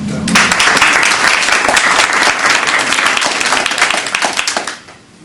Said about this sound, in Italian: Allora, lo accoglierei con un applauso.